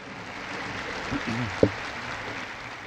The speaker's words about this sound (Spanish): Gracias a estos hermanos y hermanas desconocidos que ayudan a Dios a llevar adelante el mundo, que viven entre nosotros, saludémoslo con un fuerte aplauso, todos.